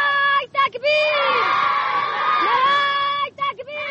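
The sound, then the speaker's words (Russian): A group of children of the Afghan resistance sings a song together in loud, sustained unison notes, their voices bright, with short breaks for breath near the start and end. “Этой песни детей афганского сопротивления мы продолжаем цикл передач, посвященный войне в Афганистане.”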